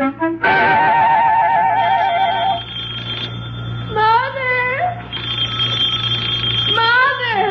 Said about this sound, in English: Wake up, your phone's ringing.